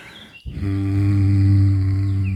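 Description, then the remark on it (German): A person hums one long, low, steady note that starts abruptly after a brief quiet moment and holds at an even pitch and loudness to the end, with no talking. “Und dann einfach summen.”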